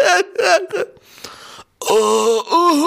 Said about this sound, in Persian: آقا چرا گریه میکنی؟ مرم به گریه میندازی؟